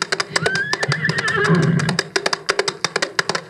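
A horse lets out a long, wavering whinny, surrounded by sharp, rapid hoof clops that keep going after the neigh fades.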